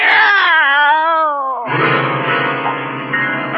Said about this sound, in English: Meow! It's a cat, Miss Brooks. I brought him over to keep Minerva company.